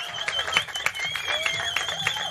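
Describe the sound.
A live crowd at the Norrisring breaks into scattered applause on a Saturday afternoon, dense irregular clapping with cheering voices and a few whistles mixed in.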